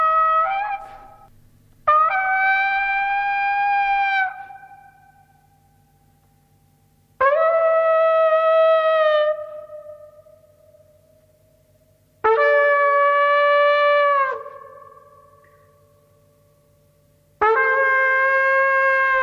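A lone trumpet plays long sustained notes, four held tones separated by pauses, each bright and loud with a slow fade, pitch shifting between phrases; no voices.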